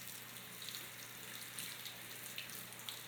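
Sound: shower water running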